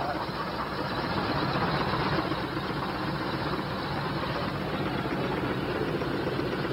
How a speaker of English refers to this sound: This maintenance emergency was an engine that had a huge malfunction. The malfunction was so severe that it caused the entire plane to shake like a washing machine on spin cycle.